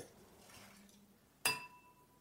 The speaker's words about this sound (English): just smashed a box cutter into a wine glass.